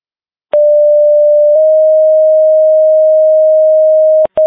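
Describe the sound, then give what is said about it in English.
A dispatch pager alert sounds, a second page to Denver Ambulance for assistance in Blackhawk County: a short pure tone steps into a long, steady mid-pitched beep lasting several seconds, followed by a quick burst of sharp clicks and tone pulses. No voices. “Attention Denver Ambulance, after a crew, this is your second page for assistance in Blackhawk County”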